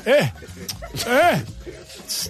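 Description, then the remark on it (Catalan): A voice lets out two drawn-out, swooping calls, rising then falling in pitch, imitating men hollering at a good-looking runner, like someone calling a sheepdog or a cat. Both are fairly loud, with a short hiss at the end. “Una mica com que crida un gos d'atura o un gat.”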